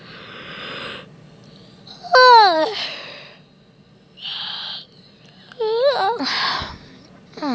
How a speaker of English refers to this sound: Shut up, you know that's how I yawn.